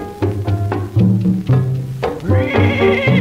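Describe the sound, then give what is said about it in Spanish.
A horse neighs in a series of loud calls, ending in a longer, higher-pitched whinny after a few short bursts, with no voices heard. “Saque ese caballo de aquí.”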